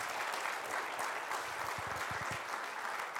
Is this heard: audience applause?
yes